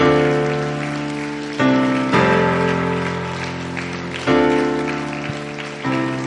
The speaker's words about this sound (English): You see, by doing what you've already done, just right here, by clapping your hands, all of a sudden you have tore up the atmosphere of the enemy.